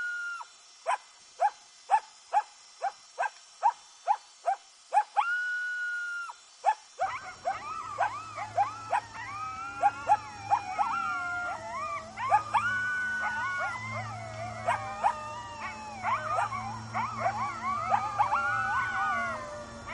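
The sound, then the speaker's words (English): Coyotes give a run of sharp, evenly spaced yips, then break into a loud chorus of wavering howls and overlapping yelps that carries on with no talking. “We're going to give you a coyote soundtrack to take your leave by.”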